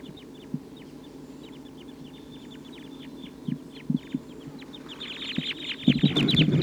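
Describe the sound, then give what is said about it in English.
A restless flock of about 14 type 2 crossbills perched in the treetops calls in a steady stream of short, high chirps, with a few low clucking notes mixed in. The chorus grows louder and busier toward the end. “The wild birds are getting a lot of calling from the treetops.”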